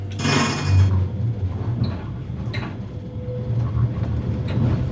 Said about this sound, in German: Mit einem nicht ganz so zarten Bim geht es dann raus aus dem Straßenbahnbetriebshof Angerbrücke.